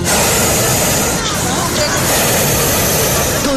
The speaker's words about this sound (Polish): Smog wawelski to hałasujące gazowe dysze balonu, ale nawet ten hałas nie popsuje romantycznych chwil spędzonych w gondoli płynącego po niebie wysoko nad Krakowem balonu.